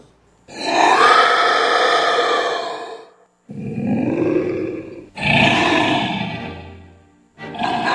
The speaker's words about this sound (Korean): 괴물은 또다시 괴성으로 포효했다. 창문이 덜컹거리며 울렸고